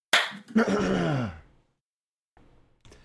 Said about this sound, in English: Let me know when you're ready for the clap. I'm ready. Okay. Okay. Three, two, one.